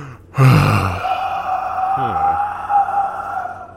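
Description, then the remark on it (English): A loud, breathy exhale rushes in near the start and fades into a long, eerie sustained tone, giving a ghostly, haunted breathing effect with no words spoken. “Ever since, people been hearing her breathing.”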